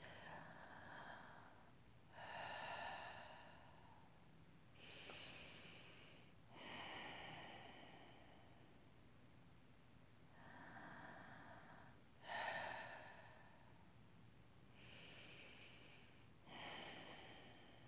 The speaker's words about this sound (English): Breathe in again through your nose. Breathe out through your nose. And that is a power breath. Continue breathing alternately, release breath and power breath.